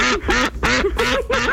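A recorded duck sound is played, about five loud nasal quacks in quick succession, clear with no voices present.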